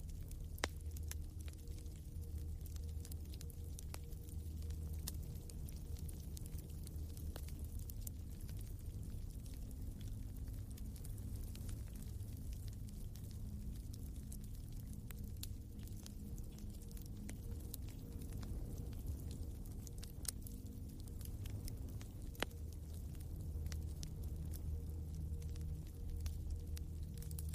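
Soft, steady rain patters against a window, scattered droplets tapping irregularly over a constant low wash of background noise. No voices, just a quiet, continuous ambience.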